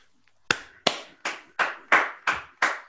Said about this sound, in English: Round of applause, Arta Construction Tribe.